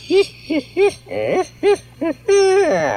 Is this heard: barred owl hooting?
yes